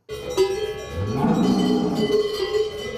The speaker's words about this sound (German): Wir sind in Obersachsen dabei gewesen, wo sich Zennerinnen und Zenner auf den Alpaufzug vorbereiten. Gestern haben die Bäuerinnen und Bauern knapp 100 Kühe auf die Vorderalp aufgebracht.